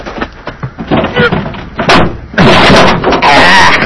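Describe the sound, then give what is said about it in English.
The stuck metal baggage compartment door of a plane is yanked and forced, with repeated rattling bangs and scraping building to loud, sustained grinding bursts, mixed with straining grunts. “In the baggage compartment. I go pull the door open. Why, buddy, she's stuck hard.”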